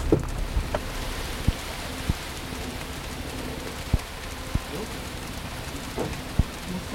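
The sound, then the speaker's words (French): Steady heavy rain pours down, a dense hiss filling the background, with scattered sharp drops or knocks striking a surface every second or so; a downpour at the roadside beside a parked car just outside a village. “Nous sommes surpris de le voir sortir de la voiture sous cette pluie battante pour continuer à parler.”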